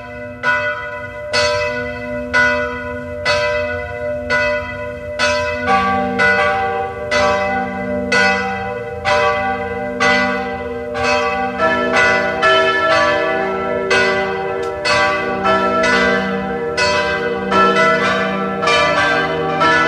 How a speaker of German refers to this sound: Es ist 12 Uhr. Sie hören die Glocken der Wallfahrtskirche Maria Hilf zu Ebenthal bei Klagenfurt.